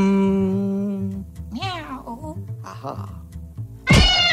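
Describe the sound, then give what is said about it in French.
A voice imitates a cat with drawn-out, wavering meows, a long steady tone followed by rising and falling cries, ending in a sharp, loud yowl. “Oh putain, tu fais super bien le chat.”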